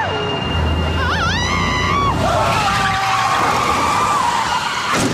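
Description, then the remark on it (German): A car's tires squeal loudly in a long, wavering skid over steady engine noise, then a sudden sharp crash of impact near the end, a traffic accident. “Verkehrsunfälle, das passiert ja eh nur den anderen.”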